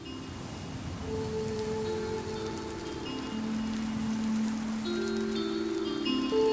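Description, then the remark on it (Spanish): Steady rain falls in a continuous, even patter that holds throughout, with soft sustained musical tones drifting beneath it. No one speaks. “Y la lluvia parece el eco de mi desolación.”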